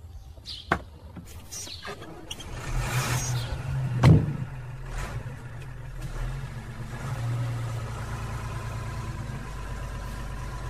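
A van's engine runs steadily at close range, a low idling rumble throughout, with a brief louder thump and a few faint bird chirps in the background.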